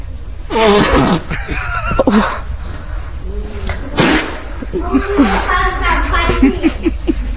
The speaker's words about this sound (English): Picture the scene, if you will. You're in a library, and there's a woman just farting in the corner a lot.